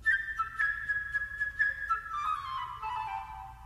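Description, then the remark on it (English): A bright, high flute melody, the bird's part in Peter and the Wolf, flutters through quick trills and ornamented notes, then slides down into a lower, smoother phrase near the end, played alone without any voices. “Now, the part of the bird is played by a flute.”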